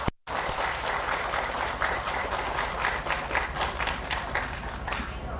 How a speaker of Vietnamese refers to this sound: Tất cả hãy dâng cao một tràng vỗ tay thật lớn để tán dương chung.